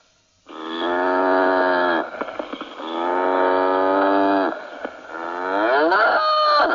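animal, cow mooing

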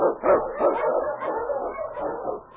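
animal, husky sled dogs barking

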